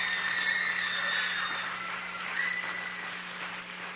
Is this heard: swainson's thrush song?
no